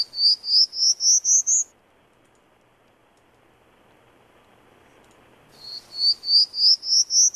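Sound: prairie Warbler song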